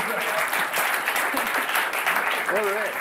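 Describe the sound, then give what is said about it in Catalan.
Steady, dense applause from a small group, celebrating a guest's negative PCR test results, fills the whole moment, with voices briefly audible over the clapping near the end. “Un aplaudiment pel negatiu.”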